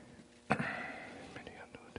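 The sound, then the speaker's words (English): Pages turning in Bibles as listeners at a prayer center turn to Romans chapter 8: a sharp papery flick followed by a soft swishing rustle, then a few quieter crisp page snaps, with no one talking. “I actually hear pages turning.”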